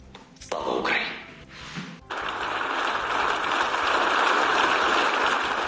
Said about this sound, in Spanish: Su discurso ha sido aplaudido por los eurodiputados.